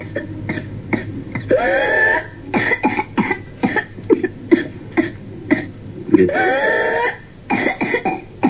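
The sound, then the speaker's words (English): Two bouts of rapid, staccato coughing from a whooping cough (pertussis) fit, each ending in a long, loud, rising whoop as air is drawn in sharply, repeated in a close, harsh rhythm with no talking. “A typical case of pertussis starts with a cough and runny nose for 1 to 2 weeks, followed by weeks to months of rapid coughing fits that sometimes end with a whooping sound.”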